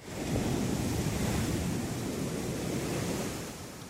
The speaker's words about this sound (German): Und vor allen Dingen das Meer. Und das nämlich ist ein endloser Strand, die nicht Strand ist mit das Übliche alles, weil das geht kilometers weiter. Es sieht aus wie Sahara. Und gleichzeitig neben Sahara ist dann Brandung und alles, ja.